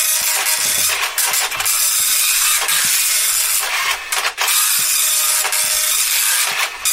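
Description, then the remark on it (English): A slow printer runs steadily as it prints off a page, a loud mechanical hiss and whir broken by brief clunks and shifts every second or so as the page feeds through, with no one talking. “I'll print it off. Okay, here we go. It's quite a slow printer, Barry.”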